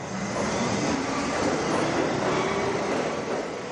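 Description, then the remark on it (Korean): A New York City subway train rumbles steadily through an underground station, a loud, continuous roar of wheels and rail noise with faint clattering and a thin metallic whine, no voices. “사람들은 지하철을 타고 어두운 지하를 통과하지만 미술 작품들을 통해서 밝은 기운을 느낄 수 있으니까요.”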